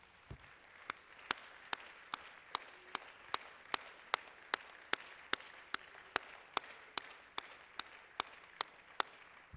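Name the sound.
audience applause and clapping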